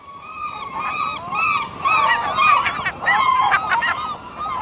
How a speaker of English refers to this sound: The loud bugling call of gulls is unmistakable. One of nature's most familiar voices. Can't you just smell the salt air of the seashore, where no ocean view would be complete without a few gulls flying by?